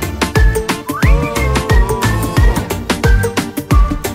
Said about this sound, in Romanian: Bagă fluiericiu, mă! Bagă, mă!